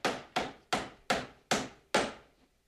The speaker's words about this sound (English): hammers boards onto the broken laundry room door.